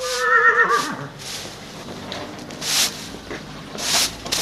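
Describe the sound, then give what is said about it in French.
A horse whinnies loudly at the start, a high wavering neigh that drops off after about a second, followed by breathy snorts and rustling shuffles in a reverberant stable of gala horses at the ENE. “dans cette écurie, on peut y trouver tous les chevaux de gala”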